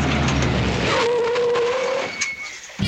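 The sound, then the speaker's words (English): A loud, steady roar of a truck engine driving, with a rising mechanical whine running through the rumble before it briefly thins out near the end. “That's them. That's the truck.”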